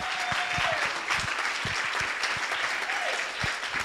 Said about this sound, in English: And that is the evening, everybody. Please give our candidates a round of applause for coming tonight.